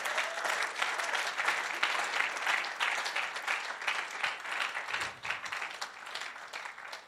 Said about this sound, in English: I'm going to call up Charles and give Charles a big round of applause. He's never shared before.